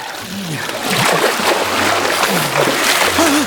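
Continuous watery splashing and sloshing, fairly loud, as a man washes his blood-stained hands in pond water after gutting an animal, stirring and scooping the water, with irregular bursts throughout and no speech.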